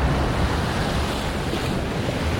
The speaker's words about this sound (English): Stand on a rocky headland above the turbulence of the tidal surge flowing like a river.